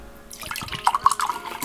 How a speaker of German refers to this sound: Ach, und gießen. Natürlich muss gegossen werden. Sonst geht das natürlich nicht.